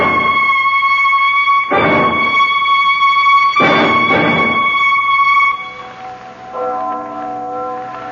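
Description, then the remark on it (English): A church bell tolls with loud, resonant strikes about two seconds apart, each leaving a long humming ring, before the sound shifts to a softer, lower chime near the end. “That's only the church bell.”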